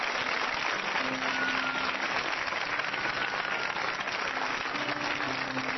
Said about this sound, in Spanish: Aplauda la gloria de Dios en esta noche. Aplaudan, aplaudan más fuerte.